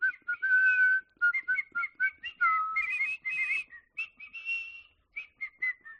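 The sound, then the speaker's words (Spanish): A person whistles a brief, catchy advertising jingle for the Sportium betting company, a quick run of bright tonal notes with short pauses, some held and some clipped, with no talking over it. “A ver, ¿tú sabes silbar bien? A ver, silba Sportium.”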